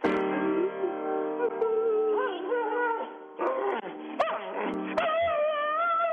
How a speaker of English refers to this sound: Just heard piano and the dog, that might be a big winner.